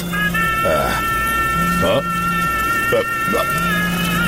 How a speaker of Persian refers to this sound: زنگ موبایلته.